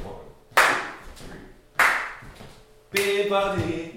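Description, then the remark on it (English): Two sharp, loud hand claps land about a second and a quarter apart on beats two and four of a swing rhythm, followed by a third hit that blends into a scatted voice; a demonstration of clapping for teaching young kids. “So, and then I can get them maybe to clap on 2 and 4.”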